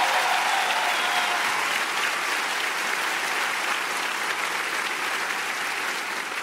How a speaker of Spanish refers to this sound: Y si tú lo crees, dale el mejor aplauso.